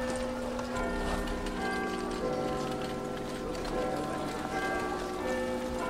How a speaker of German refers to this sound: Schon bevor die ersten Autos gebaut wurden, herrschte in den Straßen der großen Städte lebhafter Verkehr. Viele Pferdefuhrwerke, Pferdeomnibusse und Droschken waren unterwegs. Und natürlich jede Menge Fußgänger.